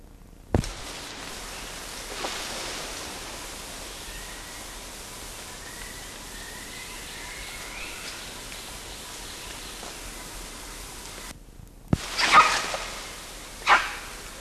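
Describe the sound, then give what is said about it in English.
A monkey, LB, gives a few sharp, isolated barking calls, spaced seconds apart, with a quick cluster near the end, over a steady background hiss like rainfall. No one speaks. “LB barking.”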